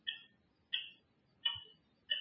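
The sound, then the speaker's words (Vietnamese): A clock on a table ticks steadily, four crisp, evenly spaced ticks roughly three-quarters of a second apart, heard clear over a quiet background with no talking. “Bây giờ ví dụ như chúng ta nhìn sự vật ở trên bàn, như là đây là đồng hồ”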